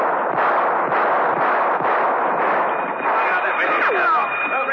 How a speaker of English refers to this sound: Rostov, at the end of the passageway, whipped up a few warning shots and raced to the next corridor.